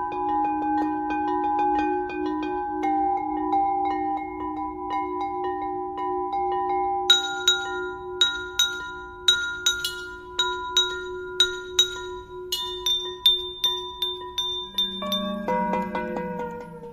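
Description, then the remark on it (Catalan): Sustained, ringing tones hum for several seconds before a steady series of bright glass clinks enters, each strike sharp and shimmering, repeating in a quick, even rhythm over the lingering drone, in an electronic music performance using glasses, water, percussion, smart sensors and artificial intelligence. “Vidres, percussió, sensors intel·ligents i intel·ligència artificial, que és un element molt, molt present en aquesta edició, no?”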